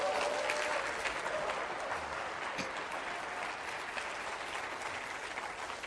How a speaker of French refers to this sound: j'aimerais que tous ceux qui ont vécu une guérison dans votre cœur par la main divine de Dieu, vous puissiez crier « Amen » pour les encourager, et vous puissiez applaudir le Dieu miraculeux.